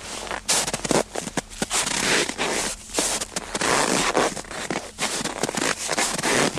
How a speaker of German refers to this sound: Ich hoffe, man hört diesen wunderschön knirschenden Schnee und die raschelnde Daunenjacke.